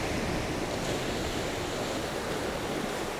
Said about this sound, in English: The waves seem to pop out from nowhere, about 15 feet away. But the sound is so strong because it's echoing from the cliff behind us. It's washing up on and spraying onto the rocks and curling back on itself